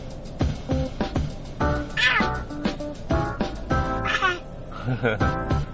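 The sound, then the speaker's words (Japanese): A cat chatters and meows in quick, repeated bursts, fairly loud, with a few higher rising yowls mixed in across the few seconds, while watching small birds eat persimmons in a tree beside a stopped car. “鳥さん食べてる猫じゃね、パクパクしてる？”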